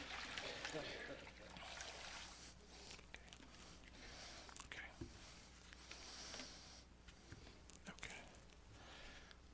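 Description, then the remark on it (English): Warm water trickles and splashes steadily during a foot washing, with irregular louder pours and drips, fairly quiet, while soft murmuring voices sit faintly underneath. “It is warm, so I don't know what effect that's going to have.”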